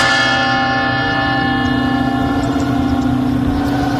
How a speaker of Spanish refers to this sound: Durante la mañana se han sucedido los actos de homenaje en varios puntos de Madrid, como por ejemplo en la Puerta del Sol, donde las campanadas, que otras veces son de fiesta, pues hoy han sido de recuerdo por los 193 fallecidos